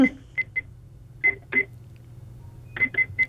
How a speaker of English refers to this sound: Sounds like he's ringing somebody up at the moment. Yes, I hear a cash register.